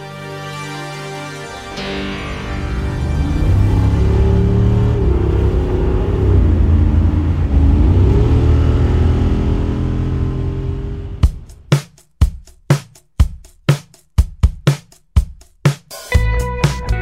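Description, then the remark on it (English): An open-top car with an optional canvas top: its engine rumbles and revs steadily for several seconds, pitch rising and dipping, then gives way to a run of sharp, evenly spaced loud thumps. No one speaks. “This is America on four wheels with an optional canvas top.”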